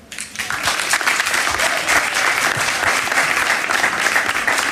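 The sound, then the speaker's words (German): Sustained applause from a sizable audience welcoming a guest onto a stage, a dense, steady wash of clapping that swells in quickly and holds at a fairly loud, even level throughout. “Ich begrüße auf der Bühne und Sie bitte mit einem donnernden Applaus”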